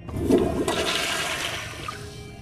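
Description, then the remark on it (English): A toilet flushes: a sudden loud rush of water that swirls and gurgles, then gradually drains away and fades over a couple of seconds, with no voices. “Oh, yes, there's nothing better than sitting on a gold-plated toilet seat in the middle of the ocean to make you feel important.”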